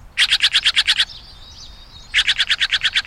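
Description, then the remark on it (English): A Steller's Jay gives rapid, harsh repeated calls, two bursts of about seven evenly spaced raucous notes separated by a brief pause with a faint thin whistle, loud with no talking. “When you hear this raucous call and see a bold flash of indigo blue swoop to your bird feeder, a Steller's Jay has arrived, and all the little birds dart for cover.”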